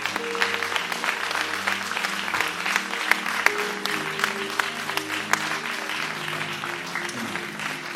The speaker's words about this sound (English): Clap your hands.